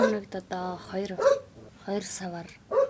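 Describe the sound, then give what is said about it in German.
A dog barks again and again in short bursts at a ger settlement on the edge of Ulaanbaatar, Mongolia, tangled up with people talking over it. “während ihr Hund ununterbrochen bellt und in ihrem Zelt der Fernseher läuft.”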